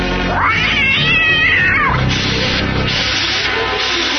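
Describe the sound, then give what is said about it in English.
A loud, drawn-out yowl from a giant mechanical cat rises and falls over about two seconds, followed by rough, rhythmic scraping bursts, with no one speaking. “It's a giant mechanical cat.”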